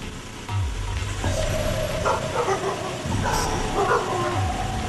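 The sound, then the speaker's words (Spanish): Dogs bark repeatedly in short, overlapping bursts, fairly loud, with a few higher yips mixed in against a low background rumble. “Putos perros.”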